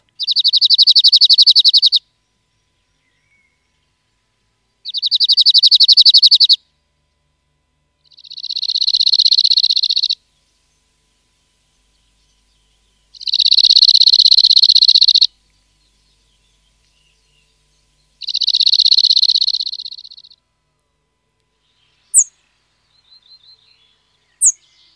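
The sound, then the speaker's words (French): A cirl bunting sings five loud, dry rattling trills on one high pitch, each about two seconds long with short pauses between, followed by a couple of brief faint chirps. “Si on s'éloigne un petit peu des bois et qu'on rentre un petit peu dans les zones beaucoup plus cultivées, avec quelques haies quand même, on va rencontrer un oiseau comme le bruant zizi.”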